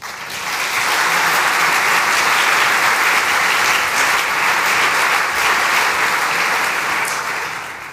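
An audience breaks into warm, sustained applause, a dense crackle of many hands clapping that swells in quickly and holds steady for several seconds before easing off slightly at the end.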